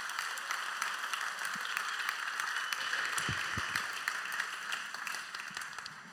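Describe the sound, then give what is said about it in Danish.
A crowd claps steadily for several seconds for a woman invited up to the front, a dense wash of many hands applauding together at even loudness, with no voices standing out. “Giv hende en stor klap til alle.”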